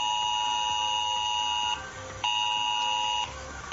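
A civil protection emergency alert blares on a mobile phone, a loud harsh multi-tone electronic beep held steady and broken into repeating pulses with brief dips between them. No one speaks.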